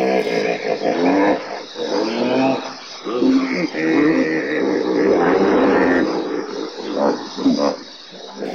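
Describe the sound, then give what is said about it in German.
A hippopotamus roars loudly and continuously, a dense, rumbling bellow of overlapping honking calls that swell and ebb over several seconds, dominant with no talking. “Nilpferde brauchen keine Handys, um sich zu verständigen. Durch ihr lautes Brüllen können sie Freunde von Feinden unterscheiden.”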